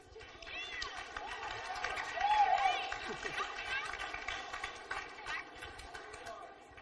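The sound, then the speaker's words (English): Steady applause from an audience, a dense patter of many hands clapping at once that swells briefly near the middle and then carries on at an even level. “So I think most of you heard it, since I heard applause over there.”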